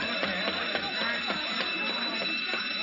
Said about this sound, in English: I set off the alarm as fast as I could, officer.